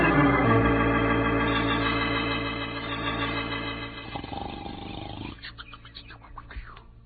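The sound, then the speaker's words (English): A loud, drawn-out snore from the sleeping character Pancho, with a buzzy, rumbling low tone, holds for about four seconds, then trails off into quieter, ragged rasping breaths. “Snores of yours are shaking the whole earth.”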